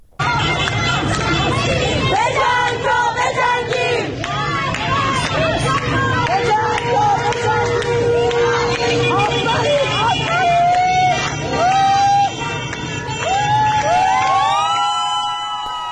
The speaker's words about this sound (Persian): در بیرون از ایستگاه مترو شریعتی تهران هم معترضان بعد از ظهر امروز تجمع کردند، شعارهای مختلف دادند. بخشی از صدای اونها رو میتونیم الان بشنویم.